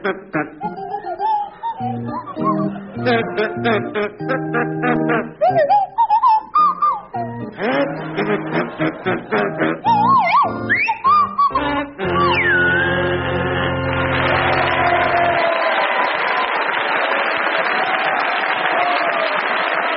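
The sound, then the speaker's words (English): Willie Rushton on kazoo and Tim Brooke-Taylor on swanee whistle play the carol "Deck the Hall with Boughs of Holly" together, buzzy and jaunty with wobbly pitch glides, before the melody gives way to loud, sustained applause from an audience. “Tim and Willie, you're to start, and your carol is "Deck the Hall with Boughs of Holly," and it's to feature Willie Rushton on kazoo and Tim Brooke Taylor on Swanee Whistle.”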